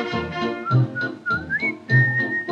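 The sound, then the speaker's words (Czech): A small pipe whistle plays a bright, gliding melody of a few sustained notes, rising and falling over a fuller musical accompaniment with a steady, pulsing lower part. “pěkně odloukej se, píšťalíčko, píšťalíčko má.”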